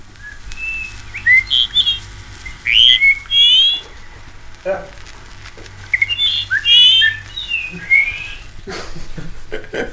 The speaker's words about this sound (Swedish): En skiva med fågelsång.